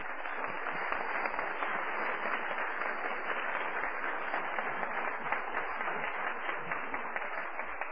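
A crowd applauds steadily for the full eight seconds, a dense, even wash of many hands clapping at once with no pauses and no voices standing out, giving a round of applause to the weekend's hostess.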